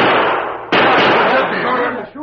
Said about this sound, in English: That'll bring my friend. You hear those shots, Tonto? Them signals. The masked man's got them.